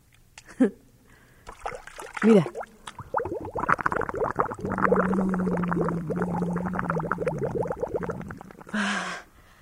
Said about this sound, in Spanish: Luego, si mueves un poco las manos, el agua se mueve también y se siente como te camina por la piel, como patinando.